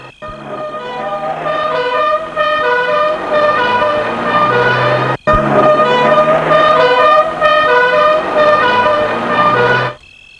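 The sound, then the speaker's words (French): A police car siren wails loudly and continuously for about ten seconds, its rising and falling tones dominant, with a brief break midway and no voices. “Puis, il entend une sirène de voiture de police.”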